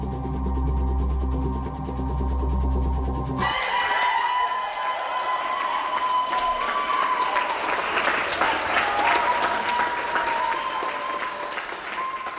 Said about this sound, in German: Der Jubel seiner Unterstützer ist auch Ausdruck der Erleichterung.